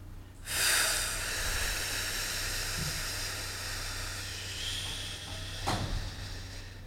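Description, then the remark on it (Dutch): A live audience at the Health Festival in Amsterdam, in a building on the Prinsengracht, blow out their breath together, a broad airy whoosh that starts suddenly and holds for several seconds, then fades, with one brief extra puff near the end over a low hum. “Dus doe even niks en blaas alleen even uit.”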